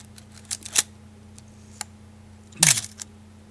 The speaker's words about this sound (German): Tja, was war das? Ja, das ist eine Kamera. Ja, aber was für eine?